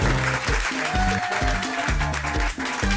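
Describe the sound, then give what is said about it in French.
Loud studio-style applause fills the whole stretch, a dense crackle of clapping layered over a bouncy, rhythmic music sting with punchy bass notes. “Gag énorme ! Rire, applaudissements !”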